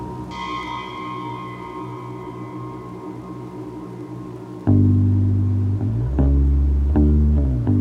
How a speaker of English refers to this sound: The bell tolled 7 times, indicating that a man was about to be executed.